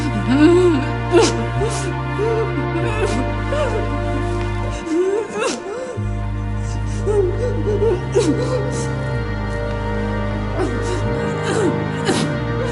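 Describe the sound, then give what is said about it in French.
A gagged young woman, tied up and trying in vain to undo her bonds, gives muffled, strained whimpers and stifled moans in uneven bursts, rising and falling in pitch over a steady low droning tone that shifts a few times. “La jeune femme bâillonnée tente en vain de défaire ses liens.”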